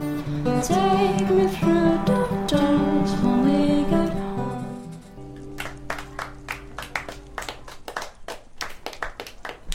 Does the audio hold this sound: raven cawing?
no